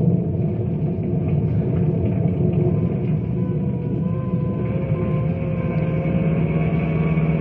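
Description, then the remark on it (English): Emergency vehicles and rangers racing across town to an area struck by a tornado, heard as a continuous, loud, low engine rumble with a steady road roar and faint wavering tones running throughout, with no voices. “Phone calls come in by the dozens, and emergency vehicles are on their way to the stricken area. Bill and his rangers race across town.”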